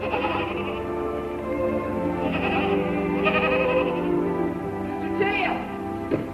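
Several goats bleat in overlapping, wavering cries that rise and fall over a steady background, moderately loud, with one sharp bleat near the end.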